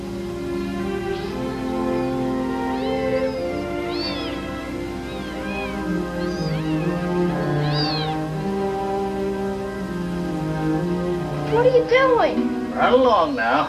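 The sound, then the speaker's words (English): High, thin mews of kittens found in a bush without their mother come in short, scattered bursts, growing busier and louder toward the end, over a steady, low murmuring background that sounds like voices. “If the mother cat had been anywhere around here, she would have never let you take them.”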